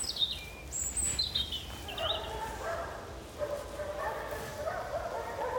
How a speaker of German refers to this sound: Hunde.